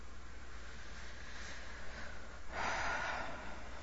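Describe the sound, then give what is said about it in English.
Breathy airflow as two people breathe heavily after a passionate kiss, with one stronger, heavier exhale standing out near the end over a steady low hum; no one speaks. “And before I pull away, and I'm both breathing heavily, and I look at you, and I say, do you want to take this to the bed?”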